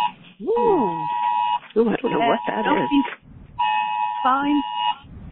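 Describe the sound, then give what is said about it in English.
A phone's emergency flood warning alert tone blares in two loud, steady buzzing bursts with a short gap between them, while people talk over it. “No, it was an emergency flood warning thing that came up on my phone.”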